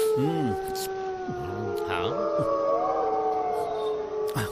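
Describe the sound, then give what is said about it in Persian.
An alpha wolf gives a long, steady howl calling its mate, rising and holding over several seconds, with shorter wavering yelps and calls layered beneath it, all fairly loud against a noisy outdoor background. “میشنوین گرگ آلفا داره جفتش صدا میزنه.”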